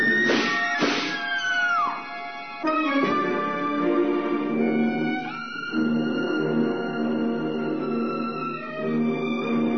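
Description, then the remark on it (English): A huge cat yowls and caterwauls loudly, a long unbroken stretch of drawn-out, wavering wails that bend in pitch, with a couple of harsher bursts near the start and no talking. “There was a cat! A huge cat!”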